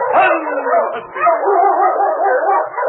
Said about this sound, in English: It's King, swiftest and strongest lead dog of the North Country, blazing the trail for Sergeant Preston of the Northwest Mounted Police in his relentless pursuit of lawbreakers. On King!